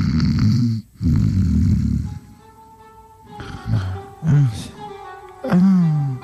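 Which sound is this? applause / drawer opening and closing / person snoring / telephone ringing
person snoring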